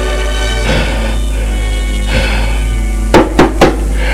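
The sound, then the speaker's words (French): Three quick, sharp knocks on a door come near the end, sounding after a few seconds of steady, low tonal background music. “On a frappé à la porte.”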